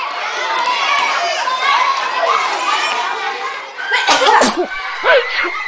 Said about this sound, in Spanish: ¡Achí! ¡…! Todo el curso está con esa peste. ¿Y tú qué con este que ni un estornudo?